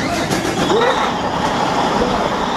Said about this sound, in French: Oh, j'entends le moteur qui s'accélère.